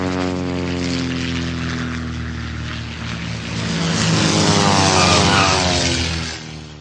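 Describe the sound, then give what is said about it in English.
A propeller airplane comes in for a landing, droning steadily with a strong low engine hum, growing louder midway as it passes overhead, then holding its rumble as it continues on. “I wish we could see some more airplanes. We can. I think I see another one coming in for a landing.”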